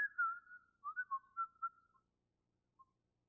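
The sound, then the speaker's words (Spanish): A person whistles a short, lilting tune of several quick notes for about two seconds, then a single brief whistled note follows after a pause, with no talking. “¿Tú crees que se va a ir a su trabajo chiflando?”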